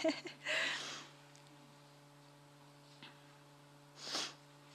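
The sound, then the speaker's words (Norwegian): Two breathy nasal sniffles, one early and one near the end, with a faint short sniff between them over a steady low electrical hum. No one speaks. “Beklager at jeg snufser så mye.”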